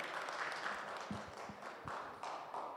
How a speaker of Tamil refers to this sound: ஒரு கைத்தட்டு போடுவோமா?